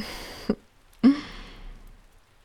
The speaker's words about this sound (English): Whoa, fuck. I didn't know all that tenderness would make you sneeze that hard. Bless you.